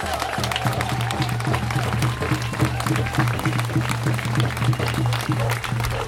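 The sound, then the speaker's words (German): A crowd at the monthly forest walk (Waldspaziergang) in Hambach Forest on 12 May 2019 applauds steadily for several seconds. The clapping is dense and overlapping, stays loud throughout, and has a low murmur of voices underneath. “Ja, spart euch ein bisschen den Applaus.”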